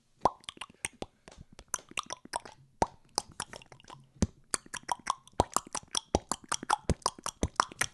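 A quick, rhythmic run of sharp tongue clicks and mouth pops, played like a little tune with varying pitch and brief pauses, fairly crisp and with no voices.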